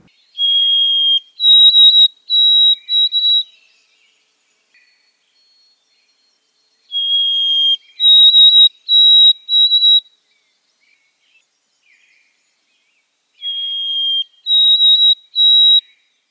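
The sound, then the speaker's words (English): A white-throated sparrow sings its clear, wavering whistled song three times, each a long pure note followed by a few quavering repeated phrases, with quiet pauses between. No talking. “Listen to the pretty, wavering whistle that sounds a bit like Old Sam Peabody, Peabody.”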